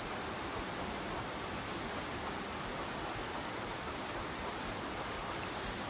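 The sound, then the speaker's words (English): Steady, rhythmic cricket chirping fills the scene, a continuous high-pitched trill pulsing in regular bursts about three times per second, moderately loud with no voices. “And listen, not to the cricket, but the sound of your energy.”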